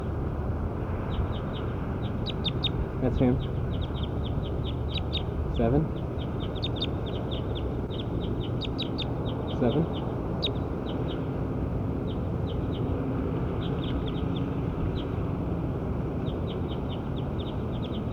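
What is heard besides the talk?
bird calling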